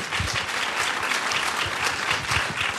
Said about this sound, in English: But round of applause, please. Thank you.